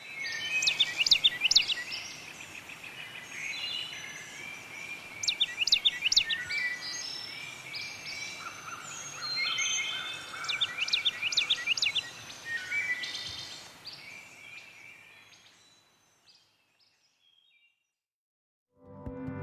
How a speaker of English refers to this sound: And for our bird song this week, it's from the woodlands of the Blue Ridge Mountains of Susan Wolfe's home state, North Carolina.